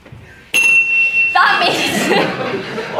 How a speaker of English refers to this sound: Jamie, can we have the bell, please?